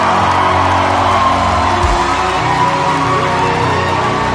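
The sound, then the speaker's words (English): A large audience shouts and cheers together to celebrate the Lord in a sustained, loud roar of voices, with whoops and yells rising from the crowd throughout, filling the space without a break. “You're shouting like you don't want to fear God.”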